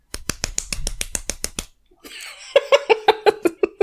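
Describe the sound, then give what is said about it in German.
A rapid, even series of about ten small, crisp claps from a squeezed capybara stress ball toy, fairly loud, followed after a short pause by high-pitched, giggly laughter in quick bursts. “Der kleinste Applaus der Welt, keine Ahnung. Ja, von Hans. Das ist Hans. Hans ist mein kleines Wutball-Kapibara.”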